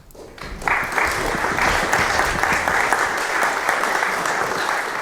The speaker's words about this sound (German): Euer Applaus, nicht meiner.